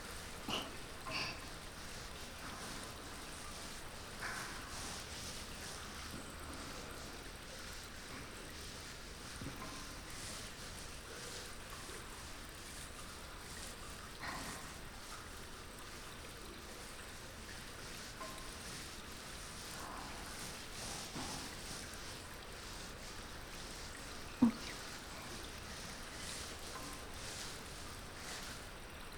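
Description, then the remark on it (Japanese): Shampoo being lathered into a fluffy foam before washing someone's hair: steady, soft, wet squishing and fine bubbly crackle, quiet, continuing without pause, with one brief sharper pop near the end. “まずはたくさん泡を泡立てて、 これをモコモコにしていきます。”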